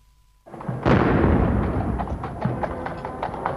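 A single heavy artillery salute gun, one of 90 minute guns fired by the Royal Horse Artillery in St James's Park, London, for Churchill's funeral procession, fires with a sharp, loud boom, then a long rolling rumble slowly fades over steady outdoor background noise on a misty, bitterly cold day.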